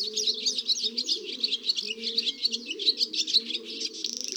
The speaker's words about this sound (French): il y a deux hirondelles rustiques qui bavardent sur un fil électrique au-dessus de la rue. Elles sont côte à côte, très belles avec leur gorge rouge et les deux longues plumes de leur queue.